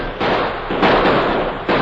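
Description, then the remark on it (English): Gunfire from a shootout around a train: loud, sharp shots crack out at irregular intervals over a steady, dense crackle of noise. No one speaks. “They're asking for lead. Let's give it to them.”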